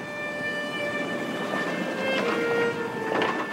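train riding on rails

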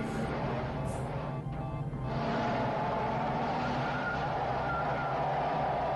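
car engine revving

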